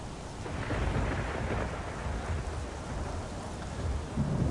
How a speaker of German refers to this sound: Der Sturm, der hört nicht auf, der ist weiter am Toben. Das Wasser ist am Spritze.